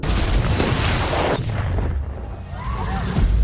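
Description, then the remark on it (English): A loud, deep explosion from a bomb going off in the center of Oslo, in a movie trailer, booms across the full range, then decays into a heavy low rumble that lingers and swells again near the end. No one speaks. “Breaking news, a large explosion has gone off in the center of the city.”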